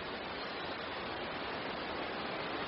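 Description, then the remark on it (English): A steady, unbroken rush of river water with a current fills the whole stretch, a dense hiss like a fast river or waterfall, with no voices or breaks. “Now, anyone could see us on the bridge, but cross by water and the current could take us, or I could escape down the river.”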